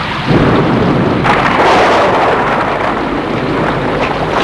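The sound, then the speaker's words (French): A loud, steady roar of heavy rain fills the scene, with a deep rumble of thunder rolling through it and a sharper burst about a second in. No voices are heard. “Je vous remercie, je suis trempé.”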